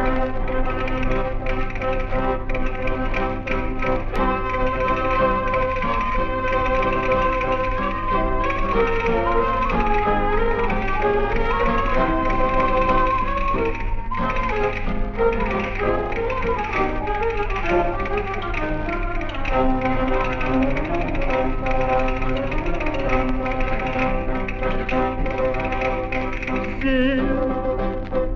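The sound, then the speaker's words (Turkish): Rapid castanet clicking from a Spanish revue's castanets, placed behind the curtain in Istanbul and accompanying a singer with the other instruments, rattles along over busy instrumental music, the crisp clacks coming in quick rhythmic bursts at a fairly steady, loud level, with no voices. “Kastaniyet sesleri arasında zil, şal ve gül ve kastaniyet sesleri arasında bir ole.”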